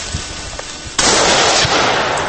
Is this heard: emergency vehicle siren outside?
no